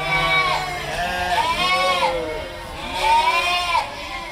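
150 sheep and 195 lambs bleat loudly and repeatedly in an echoing sheep barn at the Infohaus of the Loki Schmidt Foundation during shearing, several wavering cries overlapping one another against a busy background of other animal calls.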